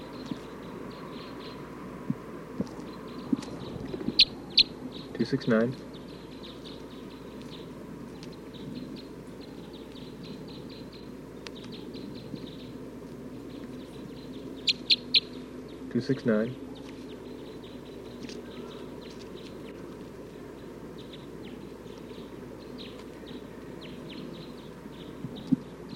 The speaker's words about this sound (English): Recording now, 269. Stop. Recording bird 269.